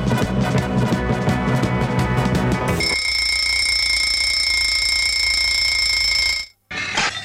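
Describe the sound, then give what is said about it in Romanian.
An alarm clock rings loudly and continuously, a harsh shrill bell tone starting with rapid rattling strikes and then settling into a steady piercing ring that cuts off abruptly before a brief restart. “Arunci deșteptătorul pe fereastră?”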